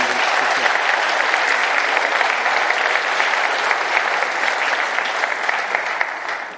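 Sustained audience applause, a dense steady patter of many hands clapping at an even loudness for several seconds before tapering slightly at the end.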